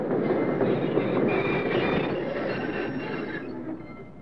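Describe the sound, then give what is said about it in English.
A freight train rumbles along with a steady clatter of wheels and faint metallic squeals, the noise gradually easing as it rolls to a stop in a railway cut, halted by a flare lit on the tracks. “Because the flare which stopped the train has been planted at a carefully chosen point, the train is strung from one end of the cut to the other, and right opposite the point where the two men had been huddling is a sealed freight car.”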